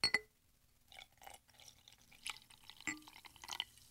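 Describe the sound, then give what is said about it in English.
Fizzy water poured into a glass with lemon: a sharp clink at the start, then scattered drips, splashes and crackling bubbles over a few quiet seconds, with no talking. “I was thinking of adding my carbonated water with some lemon to it, which I'm going to try right now.”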